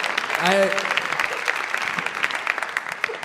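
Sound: audience applause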